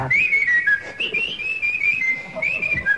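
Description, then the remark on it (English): Someone whistles a wandering melody in clear, sustained notes that glide up and down, over a faint background murmur with no talking. “Anyway, he was whistling and everything like that.”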